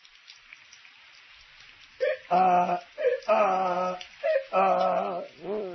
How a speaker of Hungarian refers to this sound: Szép dolog. Szakad az eső, szegény Miska meg a szabadban csak ázik, ázik.